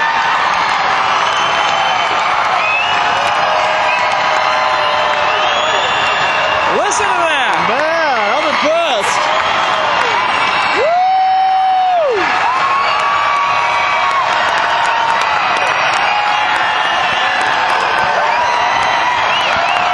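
A huge concert crowd at Altel Arena in Little Rock screams and cheers nonstop at full volume, with piercing shrieks and warbling yells rising above the roar and a brief sustained whistle partway through.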